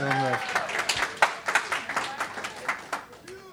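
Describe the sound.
An audience claps with a dense, irregular patter of hand claps, moderately loud, while a voice briefly speaks at the start.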